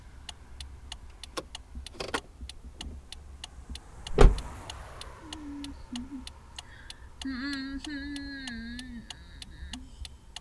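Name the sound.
car interior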